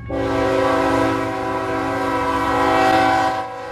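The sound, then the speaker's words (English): A coal train sounds a long, loud, sustained horn chord, held steady for several seconds over the low rumble of the passing train before cutting off, where coal trains cross the main street in Parkville, suburban Kansas City, on the Missouri River. “Parkville, in suburban Kansas City, on the Missouri River, where coal trains cross the main street and continue alongside a recreational area.”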